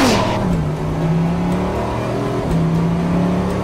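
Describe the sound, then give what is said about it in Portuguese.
A supercar engine roars loudly as it accelerates on empty roads, its strong, buzzing tone dropping sharply at two gear changes and then climbing again, with no talking over it. “Conseguimos acelerar, foi muito, muito bacana.”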